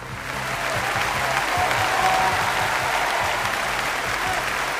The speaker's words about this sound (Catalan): Per ells, pels Txec, és el semàfor verd del Ràdio Weekend i, com sempre, aquest semàfor verd té un aplaudiment.